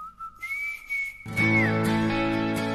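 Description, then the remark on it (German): A person whistles a clear, sustained melody, steady notes rising then sliding down. About halfway through, full instrumental music swells in underneath and the whistling carries on over it. “an der Pfeife.”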